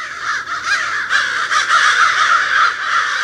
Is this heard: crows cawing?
yes